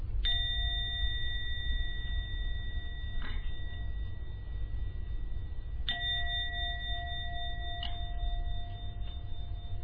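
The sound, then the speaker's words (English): A meditation gong is struck three times at a steady pace to end a meditation, each clear metallic strike leaving a long, pure ringing tone that hangs in the air over a low background hum. No one speaks. “So I'm going to now ring the gong three times.”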